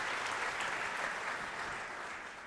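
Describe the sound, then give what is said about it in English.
An audience at the Village Church applauds the speaker's parents and younger brother in a steady, dense wash of clapping that holds evenly for a couple of seconds, then tapers slightly near the end, with no voices rising above it. “They get some applause, for sure.”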